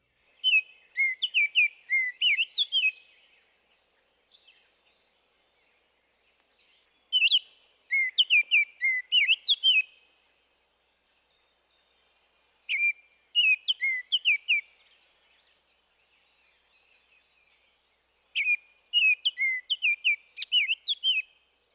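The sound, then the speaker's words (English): A male northern oriole sings rich, flute-like whistled phrases, four bursts of quick melodious notes separated by short pauses, clear with no other sounds around. “The northern oriole gives an elaborate flute-like whistle.”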